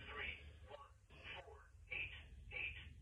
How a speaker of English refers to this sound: The phone is always ringing and it's telling us who it is.